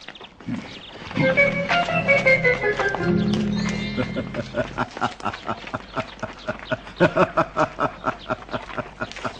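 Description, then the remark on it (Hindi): A horse lets out a long whinny, then breaks into a gallop: rapid, rhythmic hoofbeats pound steadily and loudly for several seconds. “दौड़ लगा ऐ मेरे घोड़े, दौड़।”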